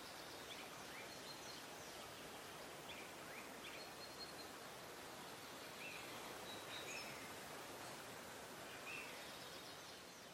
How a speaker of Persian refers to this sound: صدای رود، صدای آب.